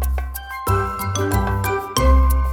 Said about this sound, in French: Vite, vite, vite, les cloches sonnent.